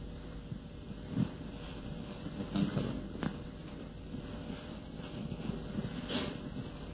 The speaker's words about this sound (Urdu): اي پنکھا بند کروا.